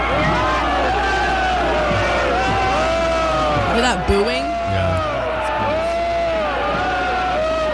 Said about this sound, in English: you can fucking hear people booing her